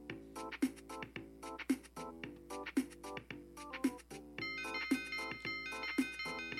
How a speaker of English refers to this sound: Oh, the doorbell, darn it. Nothing but interruptions.